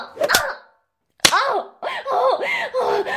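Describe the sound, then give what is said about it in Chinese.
Two sharp, loud slaps on skin, about a second apart. A woman's voice lets out drawn-out, wavering vocal sounds after the second slap. “你打得越重，婊子这条狗就越爽。”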